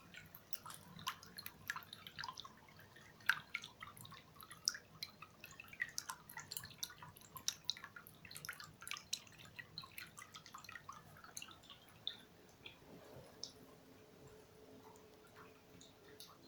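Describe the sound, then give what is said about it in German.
Gentle water lapping and dripping against a gondola in a quiet side canal, with soft irregular splashes and small clicks over a low, steady background, quiet and calm with no talking. “Sanft plätschert das Wasser gegen die Gondel.”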